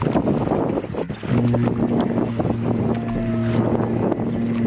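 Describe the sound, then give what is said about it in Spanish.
A new Russian submarine launching into the water for the first time: a steady, deep horn blares continuously over a rushing, wind-buffeted outdoor din of water and crowd-like noise, loud. “Esto que escuchas es el momento en el que entró en el agua por primera vez hace poco más de un año.”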